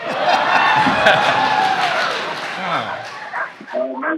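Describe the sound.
A pack of Siberian Huskies barks, yips and whines excitedly in a loud, overlapping chorus at the start of the Yukon Quest in downtown Whitehorse, with a few human voices mixed into the din.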